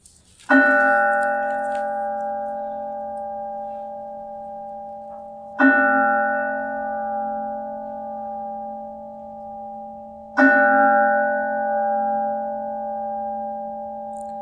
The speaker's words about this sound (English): The sound of the bell, still reverberating, or a blackbird calling from a corner of the field, each asking you to awaken into this life, each inviting you deeper into the one that awaits.